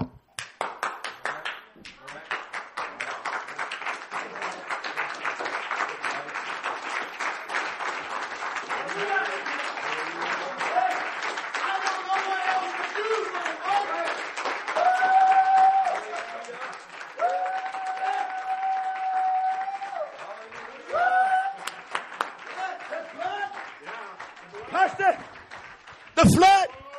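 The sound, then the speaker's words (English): Many hands clap in a steady, quick rhythm throughout, loud and continuous, while sustained musical tones and voices carry along underneath the clapping. “I just clapped my hands.”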